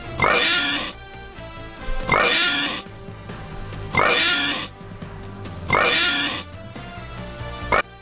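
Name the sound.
person imitating pig oinks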